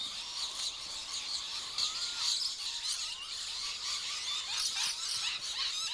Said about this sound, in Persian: همسایه سنجاب‌های پرنده دارن پر سر و صدا تر میشن.